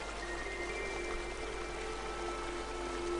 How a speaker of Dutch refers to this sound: een waterval naar beneden komt. Het sprankelend helder water. Ga naar die waterval toe. Stap in het water.